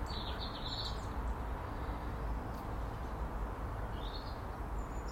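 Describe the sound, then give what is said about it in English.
A few faint, high bird chirps from birds flitting about on a bright, cold, sunny morning with no wind or rain come in short bursts at the start and again near the end, mostly buried under a steady, loud outdoor rumble and hiss. No one speaks. “Quite a bit of activity of the birds this morning too. All flitting about, doing their ting.”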